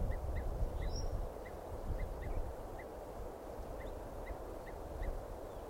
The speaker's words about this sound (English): There's a crossbill there, chittering. This is an adult female crossbill here.